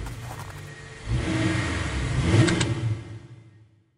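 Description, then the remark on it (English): A single car's engine revs and accelerates on an icy bridge by the Leighton Tube station in East London, late after dark. This is the car that struck Cornelius Cardew. The sound builds from a low rumble into a louder surge before quickly fading away, with no voices present. “But as Cardew crossed the street, a single car suddenly materialized on the bridge.”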